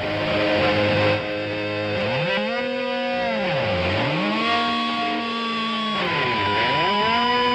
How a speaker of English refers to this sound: Somebody's trying to start a lawnmower or something. I think the carburetor's plugged.